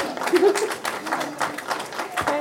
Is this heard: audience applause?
yes